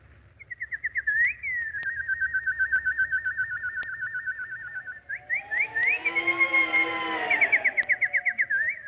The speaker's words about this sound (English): Oh, little nightingale. Song, you have driven evil visions from my mind, drawn death from my heart.